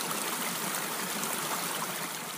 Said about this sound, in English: Sunlight was melting snow from the pine trees, dropping water pellets onto my hat. It was a steady beat to go along with the headline act of rushing spring streams.